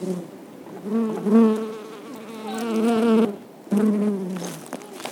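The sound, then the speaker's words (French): Bees buzz loudly, recorded with a microphone brought close to them, a steady droning hum that wavers in pitch as they move around, with a brief dip before the buzzing swells again. “On a vu des abeilles, on a approché le micro d'eux, ça a fait bzzz et voilà. Enregistrement d'abeilles.”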